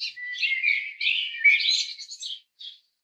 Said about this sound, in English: A bird trilled overhead.